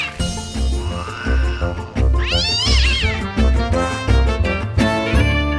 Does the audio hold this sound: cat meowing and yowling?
yes